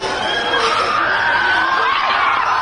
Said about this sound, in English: Screaming fans mobbed Chennai International Airport to welcome home Gukesh Domaraju.